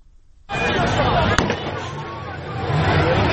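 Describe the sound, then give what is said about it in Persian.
A single sharp gunshot crack rings out amid a loud, continuous roar of crowd commotion and outdoor noise as security forces fire tear gas and shoot toward people; the noise bursts in abruptly and stays dense throughout. “نیروهای انتظامی در واقع امنیتی و نظامی گاز اشکاور شلیک کردن، تیراندازی کردن به سوی مردم. ما صدایی داریم از این.”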